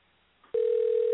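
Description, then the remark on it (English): A telephone line tone cuts in suddenly after a quiet moment and holds steady and loud, a single unbroken electronic beep with a thin, narrow telephone quality, signalling that the person called on a Verizon line is on the other line. No one speaks. “Well, when it beeps like that, he's got Verizon, and it means he's on okay. the line.”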